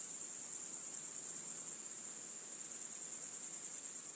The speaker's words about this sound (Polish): Nie, to nie koniki polne, cykady ani inne świerszcze. Pasi koniki. Tu słyszymy konkretnie pasi koniki zielone.